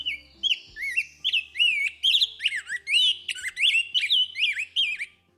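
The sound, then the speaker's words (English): A rose-breasted grosbeak, in a recording from the Cornell Lab of Ornithology, sings a clear run of sweet, rapidly rising and falling whistled notes that warble on without pause for several seconds, with nothing else audible. “That is the call of a rose-breasted grosbeak, courtesy of the Cornell Lab of Ornithology.”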